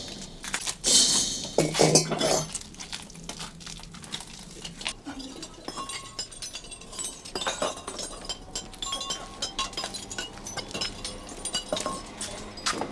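Salt-glazed stoneware Bartmann (bearded-man) jugs clink and knock together as two helpers carry them into a storeroom on the ground floor of a house and set them down, with sharp bright chinks at the start and scattered lighter clatters continuing, no voices.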